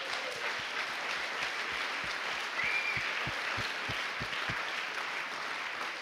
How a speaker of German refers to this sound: Applaus.